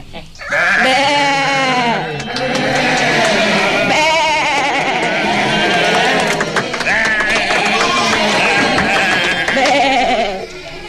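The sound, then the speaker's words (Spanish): A chorus of sheep bleating loudly and continuously, several overlapping wavering cries of different pitches rising and falling over about ten seconds, with no pauses; a sheep family, doña Borreberta, don Borreberto and their little ones, at a ceremony. “Bueno, y no pueden faltar en esta ceremonia tan importante el séptimo informe sopilote, doña Borreberta, don Borreberto y sus Borrebertitos.”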